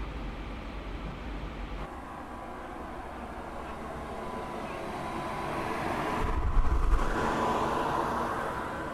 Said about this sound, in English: I'm outside, and what you just heard me walk past is the exhaust hose in the window that's blowing the hot air out. And it does blow out some decent air. It really does.